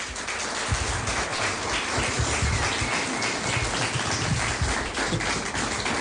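Steady audience applause fills the whole stretch, a dense, continuous wash of many hands clapping at an even, fairly loud level, with no voices standing out above it.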